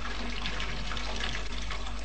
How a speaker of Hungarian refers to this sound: Igen, a fürdőkádban időnként meg szokott fürödni. Sőt, most még zuhanyozik is, felség. Hallgassa csak.